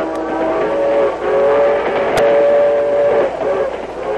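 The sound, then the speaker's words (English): A steam train from California rumbles steadily along while its whistle sounds loud, drawn-out blasts over the clatter, with no one speaking. “Dan Reed, the teenage nephew of the Lone Ranger, was a passenger on the train from California.”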